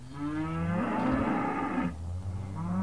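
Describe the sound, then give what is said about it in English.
Several cattle of a herd on a cattle ranch on County Road 766 in Jonesboro moo loudly, calling to a rancher they recognize because they are hungry: long overlapping bellowing calls with rich harmonic tones, one after another with no pause, and no one speaking. “On a cattle ranch on County Road 766 in Jonesboro, the herd recognizes a rancher and lets him know they're hungry.”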